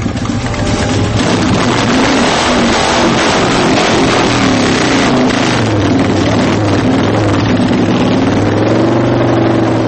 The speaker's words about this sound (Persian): موتورسیکلت مثلا در تهران 25% از سهم حمل و نقل شهری رو به خودش اختصاص میده، و میدونید که با اومدن پیکای موتوری و این تاکسی‌های موتوری و اینا که با سرعت نور بین ماشینا ویراژ میدن، روز به روزم داره به این درصد اضافه میشه.